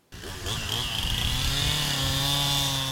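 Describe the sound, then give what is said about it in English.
A chainsaw roars to life after a brief silence and runs steadily at high throttle at a chainsaw event in Frederick, loud, with a sustained buzzing whine and a slight pitch rise early on. “And that is how we wandered into the Chainsaws and Chuck Wagons event in Frederick.”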